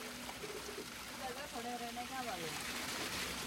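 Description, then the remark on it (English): A steady, loud rush of water gushes continuously from a hydrant tap into a bucket, going from a dirty dribble to a flood in full bore, while voices talk faintly in the background over the flow. “One moment, the water from the hydrant's a dirty dribble. The next, a flood in full bore.”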